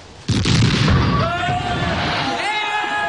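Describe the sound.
A single loud cannon blast bursts out suddenly from a ship's cannon fired at a monster, its deep rumble rolling on for a couple of seconds while high, sustained voices rise over the fading roar.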